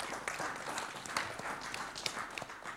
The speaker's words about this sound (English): You know, and so I think if we can give ourselves a round of applause